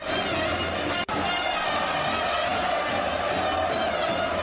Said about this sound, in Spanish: Este es el sonido que nos deja este fin de semana el encuentro de peñas que se celebraba en la Copa del Rey en Gran Canaria.